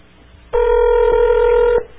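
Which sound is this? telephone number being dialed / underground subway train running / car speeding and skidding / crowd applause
telephone number being dialed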